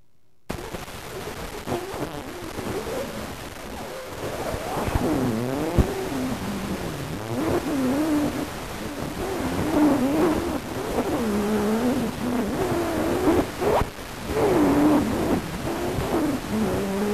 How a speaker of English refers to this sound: How about this recording of a song of the voice from July 1857, the oldest known phonautogram longer than a split second? Can you catch some hint of someone singing?